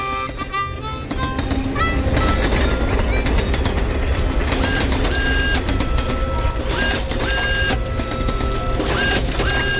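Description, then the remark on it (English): A train picking up speed as it pulls away, a loud, steady mechanical rumble on the tracks, with rhythmic clattering and occasional high metallic squeals, filling the whole stretch without any voices. “climbed aboard, and the train picked up speed quick.”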